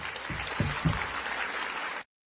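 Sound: light clapping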